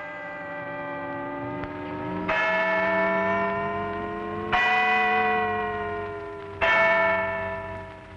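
Deep clock bells striking thirteen on a cold April day ring out three times, spaced about two seconds apart, each loud stroke ringing out with a rich, sustained hum that overlaps the next. No voices are present.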